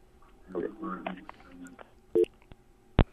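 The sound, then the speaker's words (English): A single short electronic beep from a phone keypad button as a call ends, then a sharp click a moment later. Faint, muffled voice-like murmuring comes before it. “We learned that the phone works, and you can just push the button, and then it just happens, and there's no phone.”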